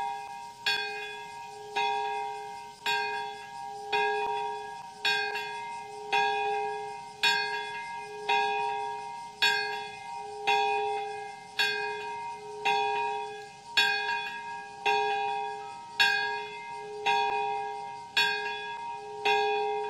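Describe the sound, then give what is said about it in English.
The peace bell rings out in steady, evenly spaced strikes, roughly one per second, each clear metallic tone sustaining and overlapping the next, with no voices present, at a memorial ceremony in a peace park in Nagasaki at 11:02 a.m. during a moment of silence marking the atomic bombing. “At 11:02 a.m., when the bomb struck 72 years ago, people at the ceremony observed a moment of silence as the peace bell rang.”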